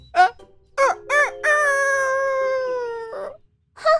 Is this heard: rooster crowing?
yes